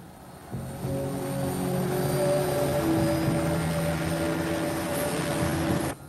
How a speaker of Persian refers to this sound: سریع هلیکوپتر رو راه بنداز!